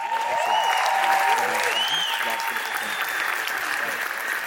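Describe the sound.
Sustained audience applause, a dense steady wash of clapping hands that stays loud throughout, with faint voices and whistle-like tones rising over the noise.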